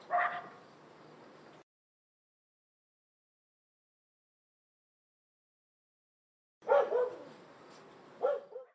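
A large dog named Leevi barks outdoors in two short bursts, a loud bark or two at the start, then a long silence before another pair of sharp barks.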